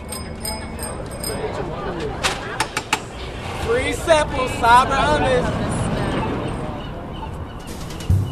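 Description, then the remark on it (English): Busy waterfront promenade ambience at the Ferry Building on the Embarcadero in San Francisco: a steady bed of crowd chatter with people talking, broken by several sharp honking bird calls and a few quick clicking taps. “25 years ago, the Ferry Building in San Francisco sounded like this.”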